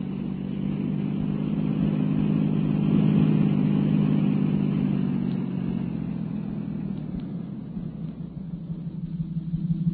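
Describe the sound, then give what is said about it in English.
A patrol car engine revs with a steady low rumble that swells around the middle, then eases off as the car swings around to head in the other direction, with no voices. “Swing the patrol car around, Benton.”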